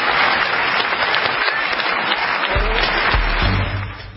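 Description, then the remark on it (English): A large audience stands up and breaks into sustained, thunderous applause, a dense wash of many hands clapping at once that stays loud throughout before easing slightly at the very end. “And the entire audience. Thank you so much. I knew stands up and applause.”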